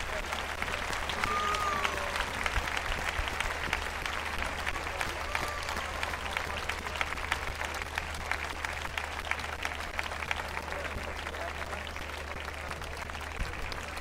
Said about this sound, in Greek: Λοιπόν, παρακαλώ πολύ, ένα χειροκρότημα όλους τους καλλιτέχνες που μας κράτησαν συντροφιά απόψε.